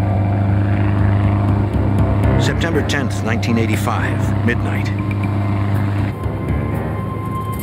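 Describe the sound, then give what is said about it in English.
A steady, droning airplane engine hums continuously throughout, loud, as the plane flies at night under the radar, while a man speaks over it. “A plane flies under the radar.”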